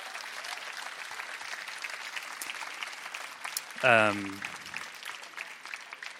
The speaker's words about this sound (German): Steigern Sie bitte diesen doch kümmerlichen Applaus für den Mann auf dem prominenten Platz zu meinem Hinterteil.